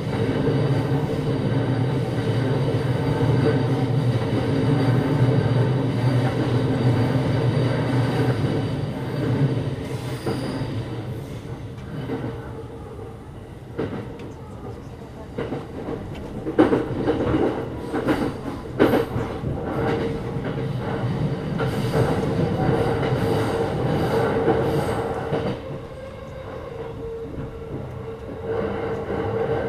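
A passenger train in Japan, approaching Nippori station, rumbles along the rails with a steady low roar, then a burst of sharp clacks and squeals as the wheels pass over joints, loud, with no one speaking.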